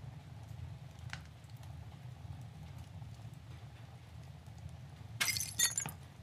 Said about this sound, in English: What was that noise? Something fell from the mantle of the fireplace. You look at the object that fell to the ground and realize that it is a picture of you and your grandpa fishing at the pond near the old hot spring.